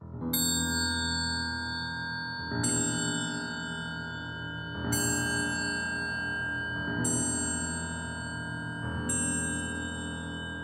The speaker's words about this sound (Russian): Вдруг старинные часы замка стали медленно бить.